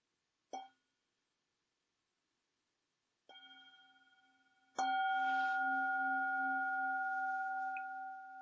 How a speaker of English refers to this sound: Well, let's start this final part with a bell.